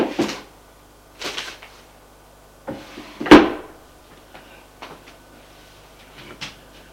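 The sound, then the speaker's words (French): A publisher works a drawer open in his office in a few scraping, rumbling pulls, then a solid wooden knock, followed by quieter rustles and small clicks of things being handled. No one speaks. “L'éditeur sort de son tiroir.”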